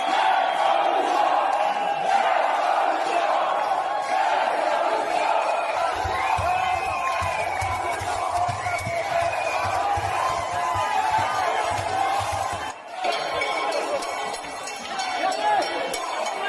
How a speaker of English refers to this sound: Protesters just stormed a town hall in Paris, and they literally threw Macron's portrait out of the window. Play cut 12 of them throwing Macron's painting out the window.